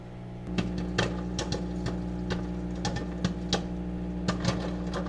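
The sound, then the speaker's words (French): A microwave oven, switched on by an Alexa voice command for one minute, hums steadily while popcorn inside pops in quick, irregular bursts of sharp crackles, moderately loud, with no one talking. “Donc là, il y a le popcorn qui est en train de chauffer dans le micro-ondes.”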